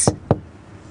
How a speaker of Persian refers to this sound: زد به شیشه. نه نه. چیه؟ زد به شیشه دیگه. آها، زد به شیشه سمت تو.